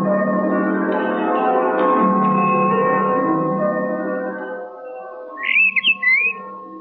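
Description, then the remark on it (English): A bird calls out in a few quick, bright squawking chirps near the end, loud, following a sustained low musical drone that fades beneath it. “A bird.”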